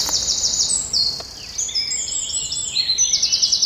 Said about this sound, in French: Le troglodyte mignon. C'est un tout petit oiseau, tout marron, avec plein de petites rayures, on le reconnaît comme ça. Il a la queue fauve et il chante avec la queue en l'air, juste à côté de nous.